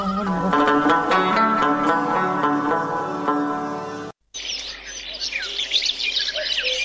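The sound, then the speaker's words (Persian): A sustained, harmonic musical passage cuts off abruptly, and after a brief silence a busy flurry of crow calls and chirps fills the rest, loud, with no talking. “سر این زاغا شک نکو، پرندای بسیار بد هستن.”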